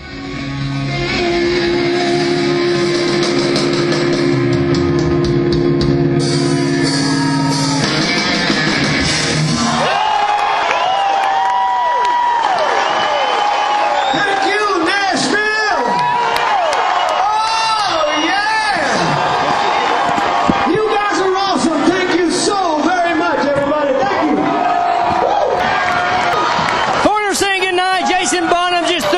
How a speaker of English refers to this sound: Goes off the stage in single file. Yeah, man, they're looking for more, aren't they? Just listen to this crowd, man. I think this is the most people I've seen at the Wild Horse. Crammed in here, man.